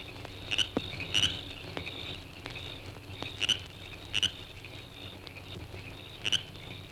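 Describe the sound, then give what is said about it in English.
Frogs call in short, sharp bursts every second or so over a steady background trill of crickets near a fishing lake in Florida, a moderately quiet outdoor night chorus with a faint low hum beneath. “If you're a Florida fisherman, you surely recognize the happy sounds of frogs and crickets near a good fishing lake.”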